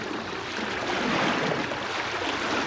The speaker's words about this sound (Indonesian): Tapi ombak yang terlalu kencang selalu mendorongnya kembali ke pantai berkali-kali.